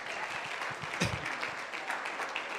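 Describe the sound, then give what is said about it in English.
A crowd claps hands for the Lord after a divine healing prayer, a steady, dense wash of many hands clapping at an even level with no pauses, a slightly louder swell near the middle, and no voices rising above it. “Let's clap hands for the Lord.”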